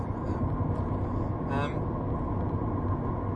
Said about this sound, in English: There's a big traffic jam up here, so let's hope there's no big accident.